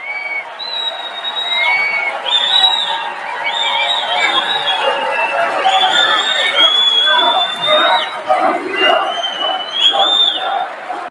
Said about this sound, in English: Wow. Very loud crowd there,